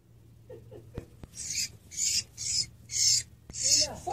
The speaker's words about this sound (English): So I wanted to show you guys a spider actually attacking a bird. Here you go.